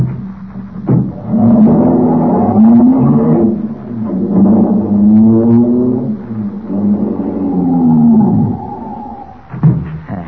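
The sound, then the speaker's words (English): A car engine turns over and revs into a loud, steady droning roar that rises and falls in pitch for several seconds as the car drives a short distance down the street, ending with a brief final burst. “I'll take the car, drive a short distance down the street, then leave it and make for the ranch.”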